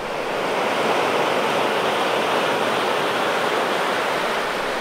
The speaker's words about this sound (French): Un tempête n'est pas content. Un tempête est colère. La tempête, il est fâché. Allez, le bateau il coule. Le bateau il coule.